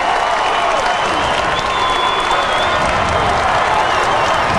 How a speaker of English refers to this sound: As he climbs into the ring, Tess and Benedict applaud in the front row.